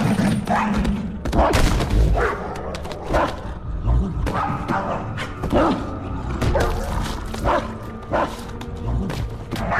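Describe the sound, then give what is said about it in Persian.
A dog barks loudly and repeatedly, a rapid string of sharp woofs mixed with yips and a few whimpers, with occasional thuds in a busy, noisy scene. “سگت رو ول کن.”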